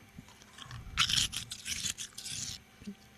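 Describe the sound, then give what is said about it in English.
Crisp, crackly crunching of soft bullet ice being bitten and chewed, with a run of bright, irregular bursts that swell loudest partway through, then taper into quieter crunches. “Yeah, it's like kind of bullet ice, but what's nice about it is it's hard enough that it stays in the drink for quite a while, but soft enough that if you just put it in, listen.”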